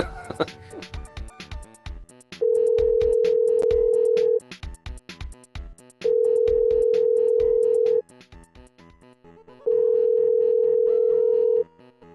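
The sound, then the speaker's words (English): Three long, steady phone-line beeps ring out at regular intervals during an outgoing phone call, each lasting about two seconds, with quieter clicks and background chatter between them. “Why was it beeping like that?”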